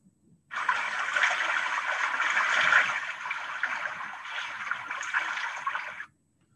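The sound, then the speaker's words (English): Water splashing and rushing in a river, a steady, fairly loud wash that starts abruptly, holds for about five seconds with little variation, then cuts off. No voices. “Who's that splish splashing in my river?”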